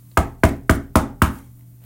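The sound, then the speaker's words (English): Five quick, evenly spaced knocks by a woman on a man's door, loud, rapping in a hurried rhythm before stopping, with a faint low hum underneath and no voices. “She knocked on his door with haste.”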